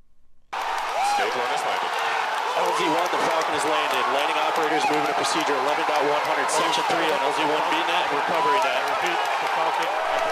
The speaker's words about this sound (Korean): 네, 로켓이 착륙하는 순간 스페이스X 직원들이 환호성을 울리는 소리를 잠시 들으셨는데요. 네. 추진체가 발사 지점에서 약 10km 떨어진 착륙 지점에 사뿐히 내려앉은 겁니다.